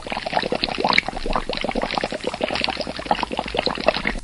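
Dense, continuous bubbling and gurgling from gas escaping underwater at the cone of the volcano of El Hierro, Canary Islands, as it degasses, a rapid irregular stream of pops and burbles at steady loudness, with no voices.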